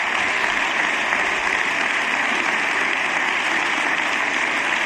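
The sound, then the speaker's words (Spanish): Sustained applause from deputies in a parliament chamber as it empties, a dense, steady clatter of clapping that holds at an even, fairly loud level with no pauses and no voices standing out. “Larga ovación mientras se va vaciando el hemiciclo, porque el resto de diputados y de diputadas ya van abandonando sus escaños.”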